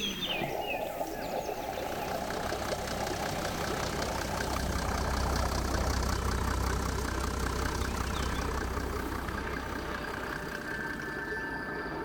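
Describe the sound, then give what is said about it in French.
A vehicle engine idles steadily, a continuous low rumble with a faint rhythmic knock running through it, holding at an even level for the whole stretch with no voices. “avec des sons de tracteurs, de motos, d'animaux.”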